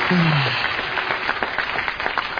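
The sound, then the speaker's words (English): Dense, steady applause from a crowd, many hands clapping at once in a continuous wash of sound, fairly loud, with a brief low tone or voice at the start. “Applause. I'm in heaven.”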